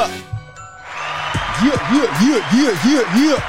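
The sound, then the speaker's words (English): Studio audience applause and cheering swell up after a brief pause, a dense, steady clatter of clapping with a rising-and-falling whooping tone repeating over it for a few seconds. A live audience at a weekly show, clapping without an applause sign. “We appreciate them coming out every single week we show up. We don't need an applause button.”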